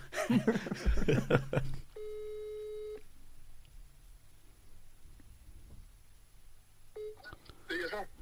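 A phone call being dialed: a quick flurry of keypad beeps, then a steady ringing tone lasting about a second, a long hiss-filled pause, and another brief ring before more beeps.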